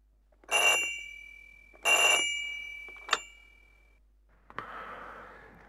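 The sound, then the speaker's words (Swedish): A telephone bell rings twice in loud, evenly spaced bursts, followed by a brief ding and then a click with a short rustle, as if the receiver is lifted. No one speaks. “Det är ett telefonsamtal.”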